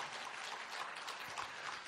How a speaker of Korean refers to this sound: 박수 한번 쳐주시기를 바라요.